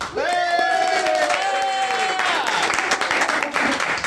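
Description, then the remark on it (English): The audience of the Comic Book Club show applauds and cheers: dense, steady clapping fills the whole stretch, while sustained high whoops and shouts ring out over it during the first two seconds before tapering off. “Wow, big crowd.”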